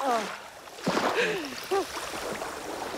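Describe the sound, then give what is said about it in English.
Water splashes in a couple of brief bursts as someone swims in the clear sea among gentle little waves, with a steady watery wash underneath. Short vocal exclamations break through between the splashes, but nobody is really talking. “And, yeah, this is the second swim of the day, okay?”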